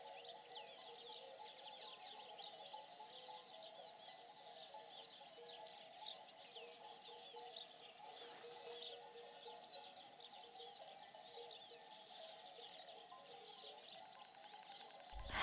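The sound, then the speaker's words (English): Cowbells on approaching cows tinkle steadily in a continuous, overlapping jangle from several animals, with birdsong chirping faintly throughout in an open outdoor setting. “Their bells are tinkling.”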